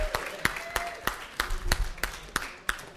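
Applause with sharp, evenly spaced claps, about ten over three seconds, steady and moderately loud, with a faint voice murmuring underneath.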